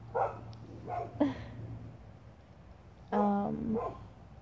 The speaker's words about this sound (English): But, yeah, I'm outside my backyard, so you're gonna be hearing things, mostly my dogs, maybe the road.